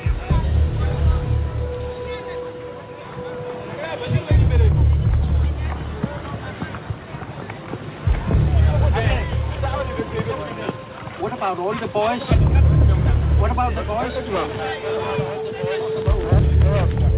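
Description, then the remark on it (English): A bus arriving from Sikasso: its engine rumbles low and heavy, surging in waves, while a crowd of people talk and call out around it in a busy, chaotic scene. “A few hours later, a bus arrives from Sikasso.”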